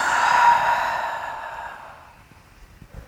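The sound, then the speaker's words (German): A single long, slow exhale of breath during a guided breathing exercise, soft, fading gradually over a few seconds into near silence. No speech over it. “Atmet ein in den Bauch, Brust, Kopf und wieder aus.”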